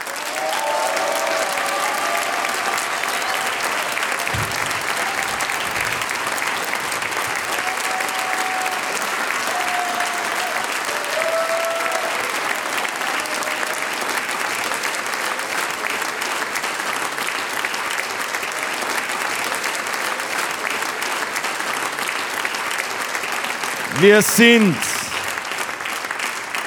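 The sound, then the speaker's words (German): Sustained applause from a large audience for the Kärntner Viergesang and other folk music groups and harmonica soloists near the end of a show fills the whole stretch, a dense steady clatter of many hands clapping, with a brief voice rising out of the crowd near the end. “Andrea Quetschenburm, die Keppeltoschen und die Floraner Tanzbodenmusi, all miteinander ein herzlicher Applaus und ein großes Dankeschön.”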